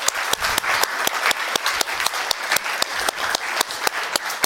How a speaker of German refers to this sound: Einen großen Applaus für alle Gruppen noch einmal.